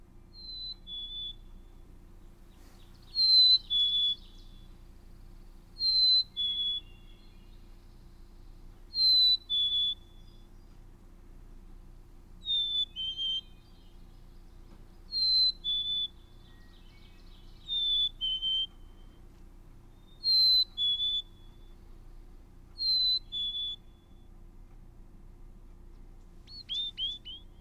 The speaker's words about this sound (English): Well, why don't we hear the Black-Capped Chickadee's "Hey Sweetie" song, and here it is.